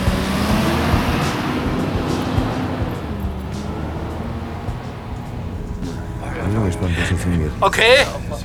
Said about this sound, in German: Anschließend rollte der Bus mit knirschenden Reifen vom Parkplatz.